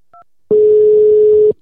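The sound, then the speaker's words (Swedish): A quick keypad beep, then a loud, steady telephone tone that holds for about a second and cuts off abruptly. A call is being placed to the first of three people to be interviewed, and no one speaks. “Så jag tycker vi ringer upp den första nu.”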